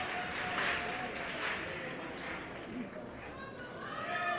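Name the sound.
theatre audience applause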